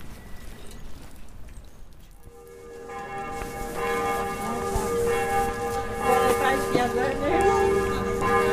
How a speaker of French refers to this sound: Ce son de cloche vous paraît d'une banalité navrante. Ne vous fiez pas aux apparences, malheureux. Il provient d'une église assez atypique. Une église avec des tours et taillé dans la pierre de ces tours, des choux de Bruxelles.